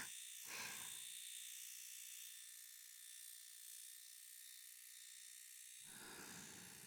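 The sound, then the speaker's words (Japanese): An electric shaver hums with a steady buzz that runs continuously for several seconds, with brief low rustles near the start and again at the end. “シェーバーは結構好き嫌いが分かれちゃうんですよね。”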